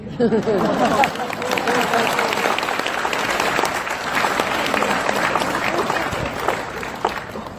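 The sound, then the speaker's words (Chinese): An audience at a Buddhist dharma talk claps steadily, a dense wash of many hands applauding at a loud, even level throughout, with a bit of crowd murmur mixed in at the start. “鼓掌好，因为还没有过一年到。”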